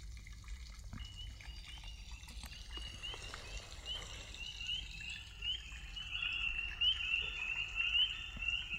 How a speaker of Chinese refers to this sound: 它闭着眼睛，静静地坐在荷叶上，霏霏细雨正滴滴答答地下着，清凉的雨点打在他的脸上